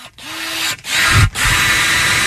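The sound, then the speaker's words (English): A power drill whirs loudly, its motor hum giving way to rough, grinding bursts as it bites in, with brief stops between pushes over about two seconds. “That's the power drill sound effect.”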